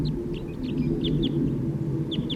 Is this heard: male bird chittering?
yes